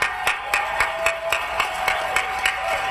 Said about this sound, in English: I'll take the applause as consent. Thank you, House.